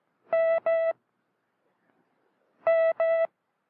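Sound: morse code beeps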